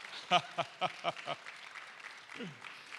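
A church audience applauds to congratulate a man given a gift from the church, in a steady wash of clapping, with a few strong rhythmic bursts early on and a falling vocal cheer rising above it near the end.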